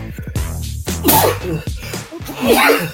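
A loud sneeze bursts out after a short breathy wind-up, with a second sharp burst following a moment later; no talking accompanies it.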